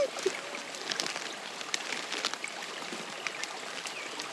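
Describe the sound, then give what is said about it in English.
A small creek trickles and babbles steadily at its headwaters on a property, a bright, continuous watery hiss dotted with quick little splashes and drips. No one is speaking. “We're actually at the headwaters of the creek on this property.”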